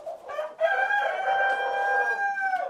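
A rooster crows loudly in one long, sustained call, preceded by brief clucking from chickens on an organic farm keeping 2,500 chickens in a mobile henhouse on pasture and in several barns with outdoor runs; no one speaks.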